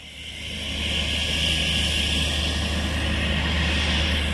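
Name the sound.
aircraft engine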